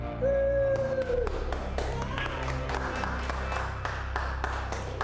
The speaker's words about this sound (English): teammates applaud as he enters.